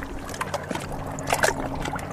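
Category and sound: nature, river water flowing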